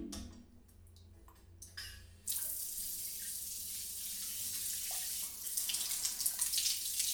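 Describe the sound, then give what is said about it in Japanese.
After a few faint clicks in near silence, a shower of warm water suddenly starts spraying, a steady hiss that grows fuller and louder toward the end, with no voices. “シャワー熱くない？”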